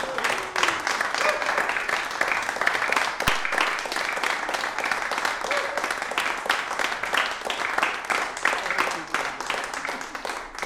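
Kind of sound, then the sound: crowd, round of applause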